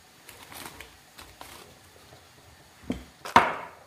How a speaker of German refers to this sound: Dann ein bisschen zwei Knoblauchzehen klein schneiden.